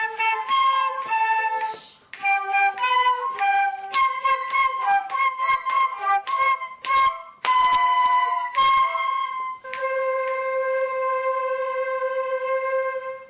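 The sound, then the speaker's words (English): The flute section of a class plays together in unison, a breathy melody of short separated notes with brief pauses, ending on one long held tone. No one speaks. “Okay, flutes up, please. I want everyone ready to play.”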